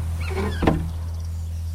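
A car trunk pops open with a single sharp latch clunk, opened at a police officer's request, over a steady low engine hum and a brief mechanical creak just before.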